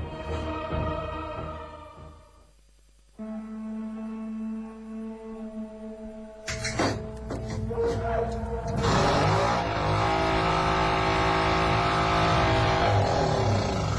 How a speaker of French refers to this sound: J'espère qu'elle va démarrer sans problème.